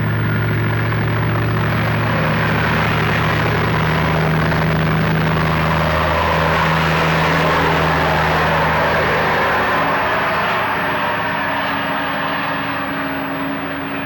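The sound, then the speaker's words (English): A loud, steady engine drone with low harmonic rumble from a tractor driving past, its pitch shifting slightly and fading a little toward the end. No talking. “Wait till the tractor gets by.”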